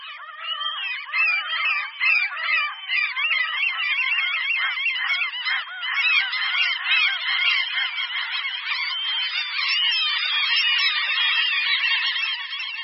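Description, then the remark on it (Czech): A dense chorus of common gull calls, many birds crying and squealing over one another in a steady, unbroken clamour, with no voices present. “Racek bouřní, ten je o něco větší než náš velice dobře známý druh racek chechtavý.”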